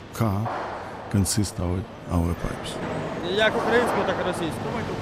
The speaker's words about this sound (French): Là, on est en plein milieu de l'usine. On est dans ce qu'ils appellent la chambre chaude. On comprend bien pourquoi. Les tuyaux rentrent, ils sont chauffés à très très haute température.